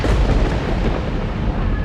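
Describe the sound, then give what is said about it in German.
A loud crack of thunder from lightning tearing across the evening sky rolls into a heavy, sustained rumble that fills the whole moment, deep and booming, with no voices present. “Josip gelingt es noch, nach einem T-Shirt zu greifen und Samja zu fragen, wer denn ihre Freundin sei, als ein Blitz den Abendhimmel krachend zerreißt.”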